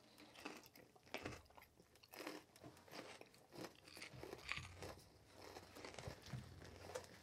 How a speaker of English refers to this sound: Well, actually, I'm going to do the first crunch so that people can hear that this is genuine.